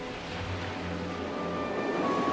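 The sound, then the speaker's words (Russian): Heavy sea waves roll steadily and evenly one after another against the shore, a constant broad wash of surf with a low rumble underneath, even in loudness, with no voices. “Тяжелые волны мерно и ровно катились одна за другой, едва приподнимая одинокую лодку, причаленную к берегу.”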